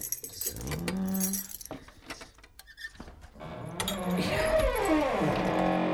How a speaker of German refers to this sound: Ja, das geht nicht. Da muss eben wieder der Dietrich herhalten. Wartet mal.